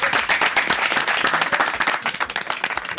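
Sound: applause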